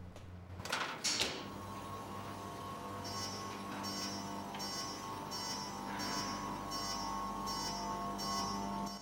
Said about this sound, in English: the chamber echoes to the sound of clicks, whirs, and beeps.